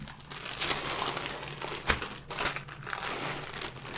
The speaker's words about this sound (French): Donc là, tu déplies tes feuilles de brique.